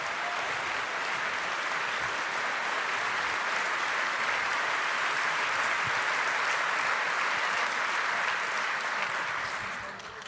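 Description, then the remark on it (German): An audience at the CCC annual review (Jahresrückblick) claps steadily for about ten seconds, a dense, even wash of many hands at constant loudness that tapers slightly at the very end, welcoming the presenters. “Deshalb kann ich euch nur bitten, macht mal einen mega dicken Applaus für”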